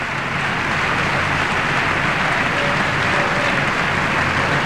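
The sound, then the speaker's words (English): Sustained applause from the chamber audience during the President's address to Congress, a dense steady wash of clapping that holds at an even, loud level for the whole stretch with no voices standing out. “As the chamber again erupts in applause, which will go for a while.”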